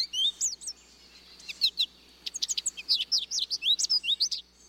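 A goldfinch sings a lively run of high, twittering chirps and warbles, quick and bright, with short bursts separated by brief pauses and no voices.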